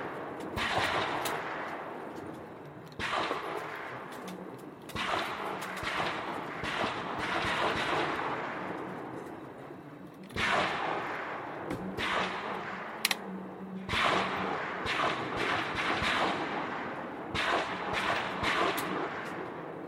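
Rapid, overlapping rifle shots crack out at a shooting range as shooters fire a second series of five shots each from the standing position, many sharp reports from several shooters firing at once, loud with echoing tails, and no talking.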